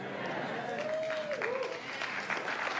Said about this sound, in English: You didn't have to clap that sincerely. That was good. That was a good clap. I actually believe you.